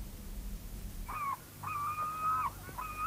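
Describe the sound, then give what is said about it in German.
Seagulls cry out in a few drawn, wailing calls, one long call in the middle flanked by shorter ones, moderately loud over a low rumbling background with no talking. “Ich hasse die Möwen”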